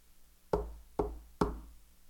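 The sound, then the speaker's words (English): Three firm knocks on a door in a steady, unhurried rhythm, each with a heavy, resonant thud that lingers briefly. They ring out clearly against an otherwise quiet background. “You hear that? He wants in. Won't you let him come in? He won't kick the door down.”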